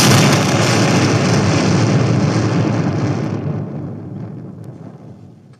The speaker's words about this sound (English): The story goes that a unit of Confederate troops died while transporting a huge sum of gold on a boat. In danger of being seized by the Union, the remaining crew decided to blow up the boat and come back later to retrieve the gold.